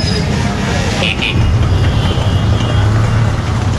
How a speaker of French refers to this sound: Il y a une moto Enfield là. Ces motos qui, je crois, se fabriquent toujours, qui sont des motos légendaires.